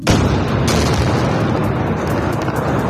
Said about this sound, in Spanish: Esta es la capital libanesa. Esta madrugada, estas explosiones que escuchas tienen apenas una hora, Israel se está centrando en atacar la infraestructura del grupo chií libanés Hezbollah